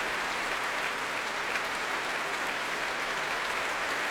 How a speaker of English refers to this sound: And the players, well, applauding each other as well they might. And Joshua Bell coming back on stage with Valery Gergiev.